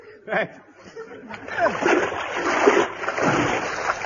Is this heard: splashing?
yes